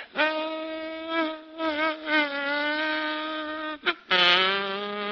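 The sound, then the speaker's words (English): A voice imitates a mosquito flying in a grocery store and landing on a small piece of Limburger cheese: a whining, sustained nasal drone that wavers and dips, breaks off briefly, then returns louder and strained before cutting out. “Now, that same mosquito flying in the same grocery store, lighting on a small piece of Limburger cheese.”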